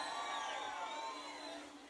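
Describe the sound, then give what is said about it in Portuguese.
A crowd in Bacabal shouts and cheers loudly for a couple of seconds after a song, a dense wash of overlapping voices and high whoops that tapers off slightly toward the end. “Quem gostou, dá um gritão.”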